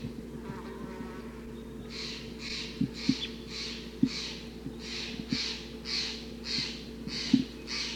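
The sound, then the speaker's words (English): A flock of red crossbills, perching on a net, calls in a steady series of short, rough notes, about a dozen in quick rhythm, over a constant low hum with occasional soft ticks. “So recording, the birds are perching like on the net.”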